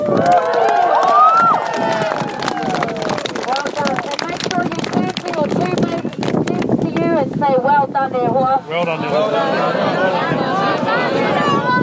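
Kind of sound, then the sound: crowd, crowd applause and cheering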